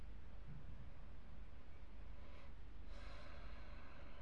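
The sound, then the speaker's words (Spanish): A single slow, deep breath drawn in and let out, soft and airy, with no talking over it. “Hacemos una respiración profunda.”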